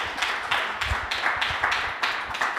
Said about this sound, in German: Ich würde sagen, Applaus, dass du da seid.